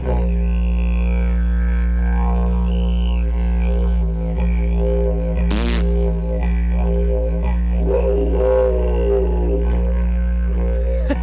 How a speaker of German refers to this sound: Aber wusstet ihr, dass ich auch ein anderes Instrument gut kann? Ich spiele auch Didgeridoo. Toll, oder?